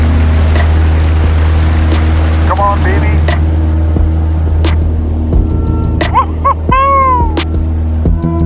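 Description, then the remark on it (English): A floatplane's engine roars loud and steady as it races across the lake to take off, with rushing water noise beneath, its pontoons just clearing the tall firs and cedars at the end of the lake. A voice speaks briefly, and short yelping sounds cut through near the end. “We leave the water and start to fly.”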